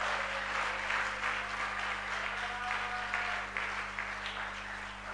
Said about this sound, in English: I urge you to clap and shout in.